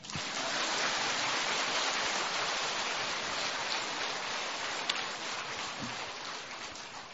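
Steady, dense applause from a large audience, a continuous wash of many hands clapping at an even loudness for several seconds before easing off slightly at the end, with no voices over it.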